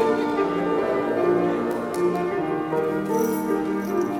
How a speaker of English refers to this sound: And now party style music and some woo-hoos.